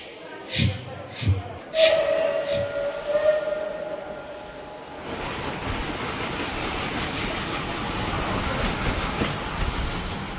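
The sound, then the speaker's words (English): Senator Karel Schwarzenberg, a guest at an event for Prague's Vinohrady railway tunnel, imitates the train he was soon to board: a few sharp chuffing bursts and a drawn-out whistling tone, followed by several seconds of steady, dense rumbling noise like a train rolling along. “He paid tribute to his great-great-uncle, Prince Schwarzenberg, and also tried to imitate the sound of the train he was soon to embark on.”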